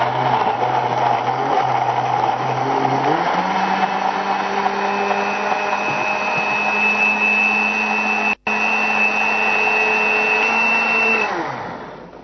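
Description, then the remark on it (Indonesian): A blender runs steadily for about eleven seconds blending juice, its motor whine shifting pitch as the contents churn, then winds down at the end. No one speaks. “Ini bisa di, tapi kalau ngejus itu usahakan minum selagi segar. Campurkan dulu.”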